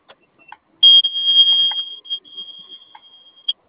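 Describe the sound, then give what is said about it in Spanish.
A vehicle panic button alarm, tested during a monitoring-center checklist for unit LGS 427C, ECO 13, gives a steady, shrill high-pitched tone that holds for nearly three seconds, loudest at its onset and then continuing evenly, with a few faint clicks around it. “Apóyame viendo tu botón de pánico.”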